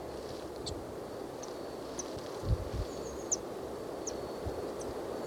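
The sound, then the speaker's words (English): Birds calling with short, high chirps and squeaks scattered irregularly every second or so, fairly faint over a steady rustling hiss, with a few soft low thumps. “Nut flew to the other tree with the other birds. And here they are again. At least two. There's another bird with them. Maybe a vireo.”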